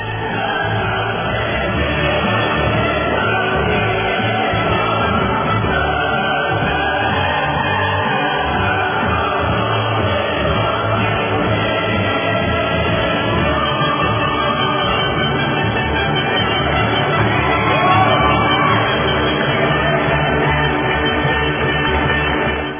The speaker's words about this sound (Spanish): vamos a dar los aplausos y el himno a la alegría. Eso, correcto.